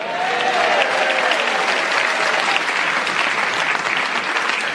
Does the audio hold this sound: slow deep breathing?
no